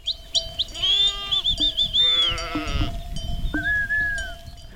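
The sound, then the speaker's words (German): Several sheep bleat in overlapping, wavering cries, some loud, others softer, with high tinkling bells and a steady low tone running underneath, in the rural village of Faljuk in Caraș-Severin county; no one speaks. “Schafe, 2000 Einwohner.”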